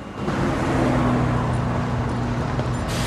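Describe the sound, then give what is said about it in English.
Steady, dense noise of a busy road, a continuous low rumble of engines and tires with a faint tonal hum, as two people walk home alongside it; no voices present. “walks Liv home alongside a busy road”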